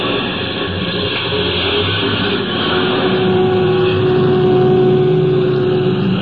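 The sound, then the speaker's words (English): A bus engine rumbles steadily and grows a little louder partway through as the bus pulls away and swings out onto the highway, a dense mechanical drone with a faint whine running along on top. “Halfway back in the bus sat the 3rd passenger, all huddled up in his overcoat.”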